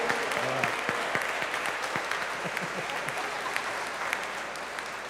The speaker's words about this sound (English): A round of applause for God's men and their companions. Amen.